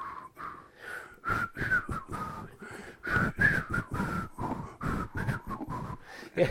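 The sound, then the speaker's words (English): Someone whistles a short, bouncy TV show theme tune, the notes weak and breathy, more rushing air than clear tone, in a quick string of puffs with no talking. “Though I wasn't whistling really well. I was more blowing wind.”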